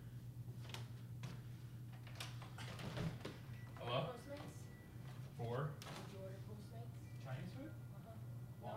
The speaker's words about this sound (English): I don't want to see what's at the door. Somebody's knocking at the door.